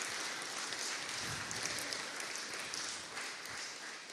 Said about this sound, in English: Let's give them a round of applause, because it's brave.